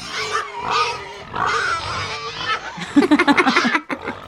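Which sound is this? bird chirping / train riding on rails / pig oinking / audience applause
pig oinking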